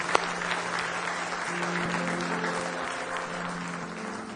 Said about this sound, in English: Let's give our Lord one more hand clap of praise tonight, if you will.